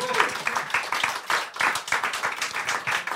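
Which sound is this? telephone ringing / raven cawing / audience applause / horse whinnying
audience applause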